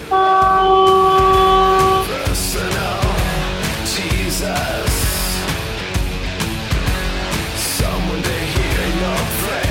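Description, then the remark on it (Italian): A loud, sustained truck air horn blares for about two seconds, followed by rumbling heavy traffic noise and clattering sounds. “Oh, senti, il camion. Come fa, Trombe?”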